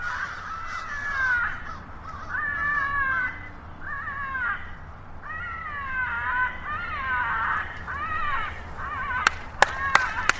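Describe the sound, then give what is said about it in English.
A recording of a distressed crow played through a speaker: harsh, strained crow caws repeat in ragged bursts over a steady outdoor hiss, fairly loud, then the calling stops near the end as a few sharp hand claps crack out. “They just played tape of a distressed crow. Vann sets up a speaker and demonstrates the technique. Listen as all the calling stops.”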